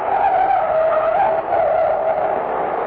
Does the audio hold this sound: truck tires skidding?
yes